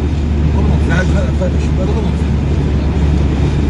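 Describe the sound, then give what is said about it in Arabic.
Steady, loud rumble of road noise rushing in through an open car window, a continuous low roar with no breaks, and a faint voice buried underneath. “شباك السيارة أنت فاتح شباك”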